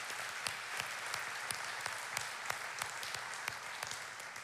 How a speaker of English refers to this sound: I think they deserve a round of applause for us.